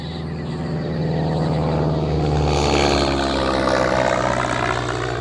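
A steady, loud engine drone with a rising, sweeping pitch, like a propeller plane passing overhead, flying over rainforest on a search, filling the whole clip without any voices.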